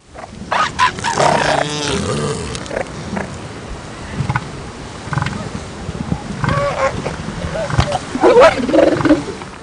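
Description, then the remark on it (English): A group of female elephant seals calling over one another in loud, throaty, overlapping bellows and grunts, some rising into harsh wavering cries, continuous with no pauses. “Once again, the first sounds you'll hear are a group of female elephant seals, and the second will be bull elephant seals.”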